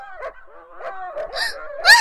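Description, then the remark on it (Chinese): Several dogs in a small wooded grove whine and whimper in overlapping high-pitched cries, rising into a louder, sharper yelp near the end. No one speaks. “啊，这么多狗狗”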